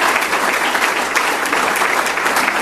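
Steady, loud applause from an audience for members of a state investment team seated at a center table, a dense wash of many hands clapping without pause for the whole stretch, no voices standing out above it.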